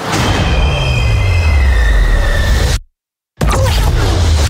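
Train wheels squeal on the rails, loud, with high metallic whines over a heavy rumbling roar; the noise cuts out abruptly for a moment, then resumes.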